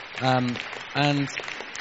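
Audience applause: a steady crackling patter of many hands clapping, with two short vocal cheers or calls rising over it.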